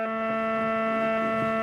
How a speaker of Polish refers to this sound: wydobył się szum z moich głośników w wieży. I ta wieża jest bez anteny, bo tu antenę wymontowałem, bo po co ja mam słuchać radia w takim gniocie, za przeproszeniem, który generuje te zakłócenia, nie? Nawet na FM.